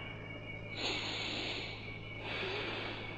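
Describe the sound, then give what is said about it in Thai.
Two long, forceful breaths follow one another, audibly rushing and hissing, a deliberate demonstration in a breathing exercise of breathing hard so the breath makes a sound, unaccompanied by any talking. “ถ้าวิ่งตามไม่ถนัดก็หายใจให้แรงก็อีกยังไม่ค่อยถนัดอีกหายใจให้มีเสียงก็อีก”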